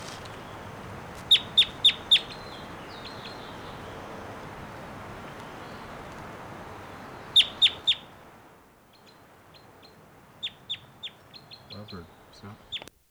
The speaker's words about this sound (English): Wild bird, stop. Here's that wild one again, giving some really loud calls.